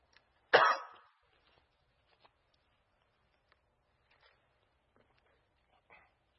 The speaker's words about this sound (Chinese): 对不起，我那个咳嗽。